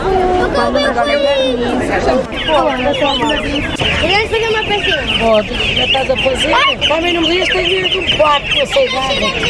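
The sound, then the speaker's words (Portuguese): Hens and roosters cluck and call repeatedly amid the steady chatter of a crowd of people, everything loud, with bird sounds overlapping the voices throughout. “Galos. Ou galinhas.”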